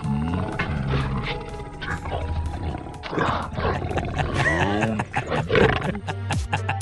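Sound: growl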